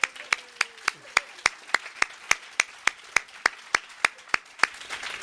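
Applause in a steady, even rhythm, like hands clapping together in time: sharp, bright claps at roughly four per second that continue throughout, with no talking over them.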